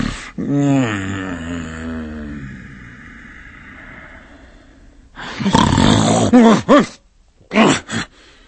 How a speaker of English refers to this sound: Awakening in the middle of a prodigiously tough snore, and sitting up in bed to get his thoughts together, Scrooge had no occasion to be told that the bell was again upon the stroke of one.